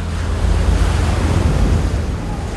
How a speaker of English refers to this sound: A Pacific tidal wave, 1 mile high, sweeps in.